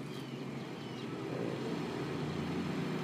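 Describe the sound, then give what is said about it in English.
A drag racing car covered in Chick-fil-A stickers and branding drones with a steady deep engine rumble, a low throaty roar that swells slightly partway through and holds on without any voices. “That's a race car. That's a drag racer.”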